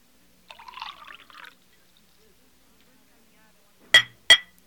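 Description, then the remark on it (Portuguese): A brief splash of liquid being poured, then after a quiet pause two bright, ringing glass clinks in quick succession, fairly loud, as glasses are touched together in a final toast. “Mas, acho que devemos fazer um último brinde, o seu último brinde.”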